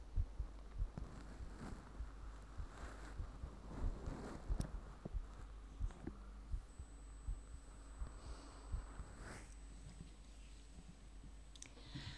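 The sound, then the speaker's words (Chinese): A steady heartbeat of soft, muffled low thumps repeating at a regular pace, listened to during a medical examination, with faint rustling and clicking handling noise and no one talking. “说话，听听我的心跳。”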